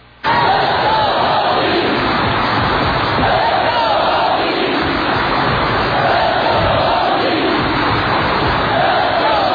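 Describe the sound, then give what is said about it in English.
A large crowd gives a school cheer, shouting in unison, a loud, sustained wall of voices chanting with rhythmic swells, continuing steadily for the whole stretch after a brief quiet start. “And then the most unnerving part of this, they decide to give a school cheer.”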